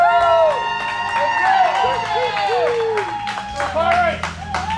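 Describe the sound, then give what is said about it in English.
A crowd cheers and whoops loudly at Moondoggies Pizza as the head coach of the Brunswick High Pirates is introduced, many voices rising and falling in excited pitch over a steady patter of clapping that grows sharper toward the end. “Come on, crowd, let me hear you.”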